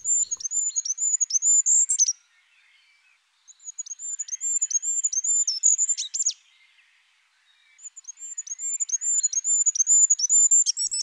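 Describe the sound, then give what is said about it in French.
A small caged bird with a little fire-coloured red and yellow crown twitters in three rapid, high-pitched bursts of repeated chirping notes, separated by brief pauses, clear with no other sounds. “Le petit prince reconnut tout de suite le roi Telet à son gazouillis et à sa petite couronne rouge et jaune couleur de feu.”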